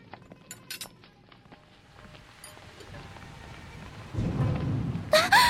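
Steady rain patters throughout with scattered sharp drops, then a deep roll of thunder swells up near the end and breaks into a loud crack. No one speaks.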